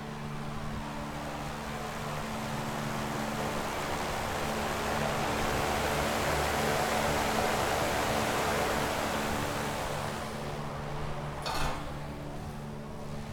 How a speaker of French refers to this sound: Si, c'est une ventile pour la cheminée, en fait. Hein. Ça, c'est le souffle qui vient de la cheminée, attends, je pense. On va l'écouter, ouais.